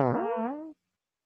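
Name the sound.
fart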